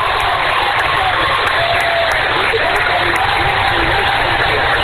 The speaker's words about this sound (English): Hearing all the applause in the background for the finals of the 200 for Veerhoff up there.